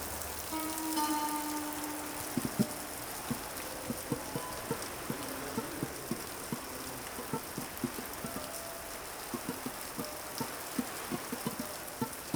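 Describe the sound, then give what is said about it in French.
Heavy, torrential rain lashes against window glass in dark, cold weather, a constant hiss broken by many sharp, irregular drop impacts that continue throughout, moderately loud, with no voices. “Donc, j'étais complètement glacée par ce mauvais temps-là, cette pluie diluvienne là, qui est venue fouetter à travers les vitres.”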